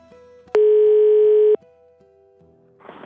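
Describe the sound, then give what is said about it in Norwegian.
A single loud, steady ringback tone sounds for about a second as a phone call to a television producer rings through, followed by a faint line hum and a soft rustle at the end. “Så var det bare en ting å gjøre, og det var å ringe produsenten til Fireterns middag”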